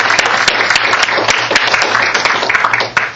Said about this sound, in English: So we're going to have to give him a huge applause for that.